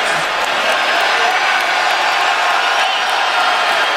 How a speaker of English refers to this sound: I don't like to hear the fans cheering. I'm surprised by that. And the players are telling him not to be doing that. No question. To cheer for a player who gets injured.